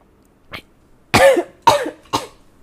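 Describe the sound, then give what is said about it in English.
A brief soft throat catch, then three harsh, loud coughs in quick succession, each sharp and breathy with a rough, sputtering edge, from someone who choked while drinking plain water. “Just drinking plain water and choke on it.”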